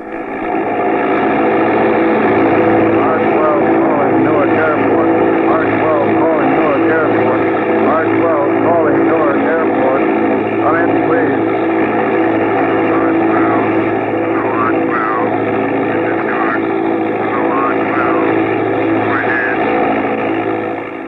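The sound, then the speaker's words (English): A propeller mail plane on a Cleveland to New York run, flying in a bad storm at about 10,000 feet, drones loudly and steadily for the whole stretch, a thick unbroken roar with muffled voices faintly buried beneath it. “This is Randolph, R-12, mail plane on Cleveland, New York run. I'm in bad storm area”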